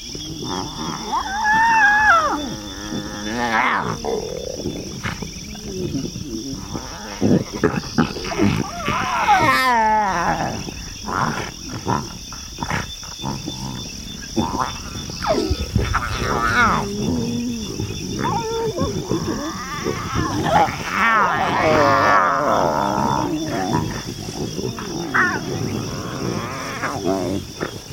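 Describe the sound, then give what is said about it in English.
Lions in the Mara roar and grunt in loud, rough bursts that come and go over nearly half a minute, with a steady high insect drone running underneath. “of the day watching out for the lions, who quite sensibly were undercover in the shade, hidden away in dense areas of croton thicket.”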